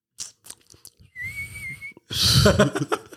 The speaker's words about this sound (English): You whistle out of the side of your mouth. It's because I can't whistle. Dude, watching you whistle is kind of adorable.